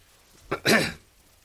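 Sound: coughing and throat clearing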